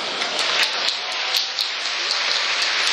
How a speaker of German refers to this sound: Und ich glaube, darauf geben wir einen ordentlichen Applaus.